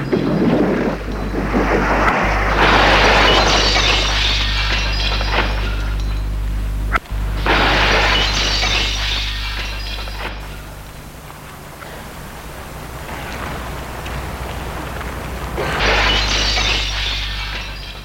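A car pushed at full speed smashes into a shop window: loud crashes of breaking glass burst out three times over a steady low engine rumble, each smash spreading into a long, hissing scatter of debris before fading.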